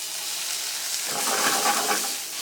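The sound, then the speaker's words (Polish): Mushrooms sizzle steadily as they are fried in a hot pan at the start of making ramen, a continuous crackling hiss that swells louder about halfway through, with no talking. “Przesmażamy sobie na początek grzybki.”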